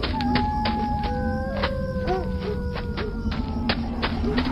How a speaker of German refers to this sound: Oh nein! Die Wölfe.